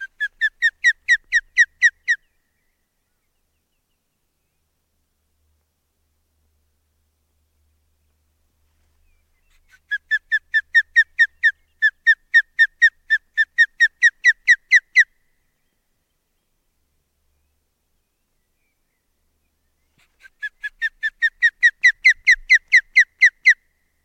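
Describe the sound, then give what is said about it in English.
Three bursts of rapid, high-pitched alarm calls from a brooding mother bird at her nest, aimed at a microphone placed there. Each is a quick run of sharp repeated notes lasting a few seconds, separated by silence. The calls are loud and clear with no talking. “But after those few chilling alarm calls, and her addition of some local moss to disguise the intruder, she settled down to brood.”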